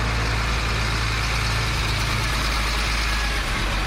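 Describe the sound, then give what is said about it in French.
Heavy transport trucks rumble steadily at the Burundi–DR Congo border crossing, their deep engine drone idling and running continuously with a broad, noisy wash of traffic sound and no voices. “Gros camions de transport sur la frontière avec la RDC poussent les quelques handicapés burundais et congolais à se déplacer dans un autre endroit”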